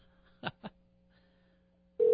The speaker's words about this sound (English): All right. This is gripping. Listen to a man make a phone call live.